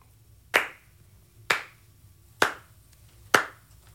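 Four slow, evenly spaced hand claps, each a sharp, bright smack with a short decay, with no talking.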